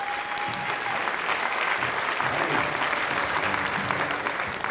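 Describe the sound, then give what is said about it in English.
Steady, dense audience applause for the mandolin player and singer fills the whole stretch, a broad wash of many hands clapping at an even loudness, with a brief high tone audible early on. “So if you would, join us in a round of applause for your friend and ours,”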